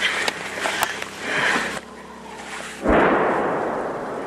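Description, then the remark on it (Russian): A heavy, booming blast of an artillery cannon firing, with a broad rumbling rush after the shot, preceded by scattered sharper pops and outdoor noise; the cannon belongs to the home side's forces at the front near Serebrianka. “На пушку схоже. І це зараз наша пушка працює.”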